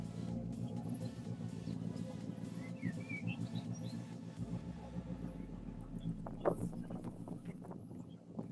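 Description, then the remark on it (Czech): A Škoda rally car, number 17, at the Rally Bohemia comes out of the corner after the flying finish toward the stop control. Its engine drones steadily and grows louder, revs rising and falling through gear changes, with faint bird chirps in the background. “A i tohle auto už se nám noří ze zatáčky od toho letmého cíle.”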